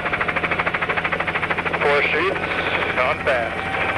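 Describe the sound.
Loud, steady rhythmic thumping of helicopter rotors as helicopters swoop low over a ponderosa pine forest in the distance, heard from a ridge during a burn igniting brush from the helicopter, the chop pulsing rapidly throughout, with brief muffled radio voices cutting in partway through.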